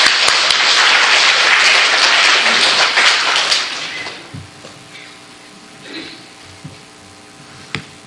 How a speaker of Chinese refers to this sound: 然后我们把时间交给他啊，请他上来，我们鼓掌，好不好？